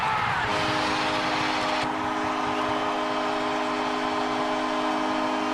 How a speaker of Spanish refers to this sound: Con esta tronadora bocina que marca los goles, un gol en la segunda prórroga de Pittsburgh contra San José,